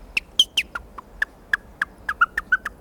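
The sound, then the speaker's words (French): A songbird gives a series of short, sharp contact calls, about a dozen clear chips in quick, slightly irregular succession, alone with no voices. “Cri de contact.”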